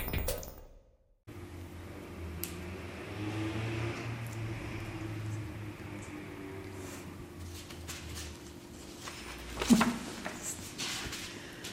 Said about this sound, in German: Draußen lärmt der Verkehr. Wir sind an Basels Hegenheimer Straße